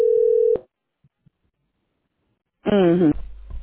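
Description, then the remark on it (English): A single steady electronic ringback tone buzzes on a phone line during a call to a pain care office for about half a second, followed by silence, then a voice picks up at the end. “they never answer their phone.”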